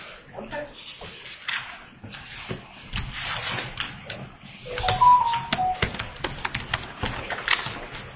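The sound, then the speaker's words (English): Paper CEU course certificates are shuffled and rustled in a steady run of crisp handling noises, with faint voices murmuring underneath. “No, I have all of my CEUs in paper.”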